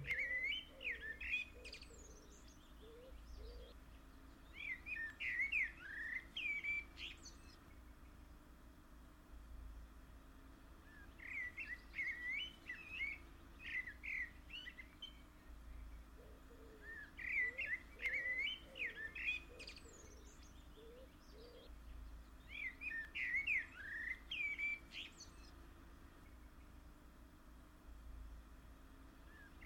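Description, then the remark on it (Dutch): Birds chirp and tweet in repeated bursts of bright, high-pitched calls, each lasting a few seconds, over a steady low background hum, with no voices. “Zijn er vogels?”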